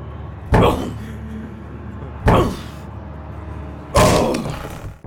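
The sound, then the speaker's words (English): A door is kicked three times at a steady pace to break it down, each a loud, heavy thud with a booming, rattling decay. “Do you want me to break down the door?”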